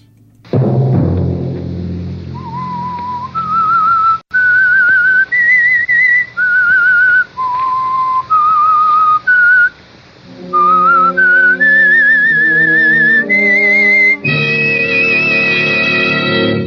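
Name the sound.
whistled theme melody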